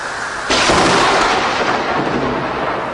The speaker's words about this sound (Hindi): इतने में जोरों की बिजली कड़की।